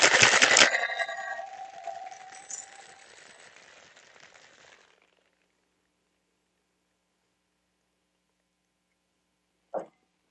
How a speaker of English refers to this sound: we'll put the lime over the ice right now.